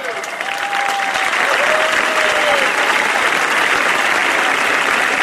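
Loud, sustained applause from a large crowd, a dense steady clatter of clapping lasting the whole stretch, with a couple of faint whistles rising above it early on.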